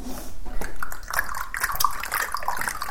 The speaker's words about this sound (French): Il écoute la petite musique de pluie.